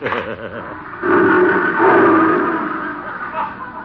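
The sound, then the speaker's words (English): A lion named Leo roars loudly, one long rumbling bellow that starts abruptly and holds for about three seconds before easing off slightly. “What was that? Oh, that's Leo, my big lion.”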